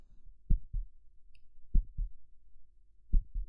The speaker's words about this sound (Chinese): 你的心跳得好快呀，第一次被女孩子这样抱吗？